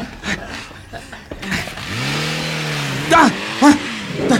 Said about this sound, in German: Da fährt ein Auto weg!